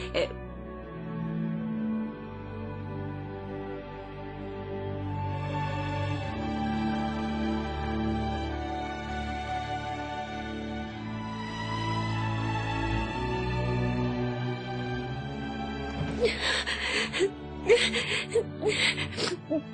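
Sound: person crying and whimpering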